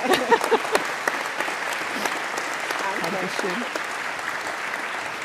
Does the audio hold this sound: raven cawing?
no